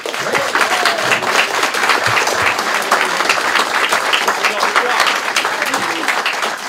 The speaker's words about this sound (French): Pour cela, je vais vous demander d'applaudir un intervenant un petit peu particulier, fait partie de la communauté Gameblog